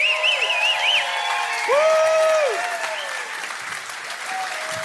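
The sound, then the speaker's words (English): An audience at a live comedy show claps steadily and loudly for about five seconds, with a wavering high whistle and a few sustained whoops rising above the dense patter of hands. “Come on, keep it going for the whole show, you guys, for coming out.”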